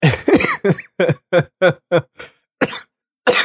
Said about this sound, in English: And you made me cough all of a sudden. See, I told you I could add a couple of coughs.